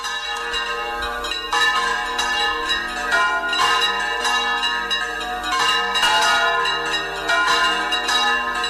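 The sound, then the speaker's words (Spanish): Church bells rung by bell-ringers, live from la Cunza, ring out in a dense, overlapping peal, strikes arriving every second or so with long shimmering decay, loud and steady throughout, with no voices. “Euskadi, que como yo, habrán vibrado con el sonido que estáis escuchando y dejándonos en directo desde la Cunza.”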